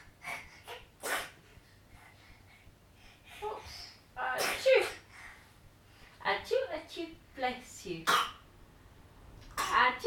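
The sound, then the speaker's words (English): A sharp sneeze bursts out amid a few other short breathy huffs and snuffles, with soft voices murmuring around it. “Bless you.”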